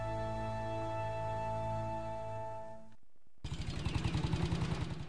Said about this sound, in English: A motorcyclist leads a convoy of army trucks with canvas tops into the village.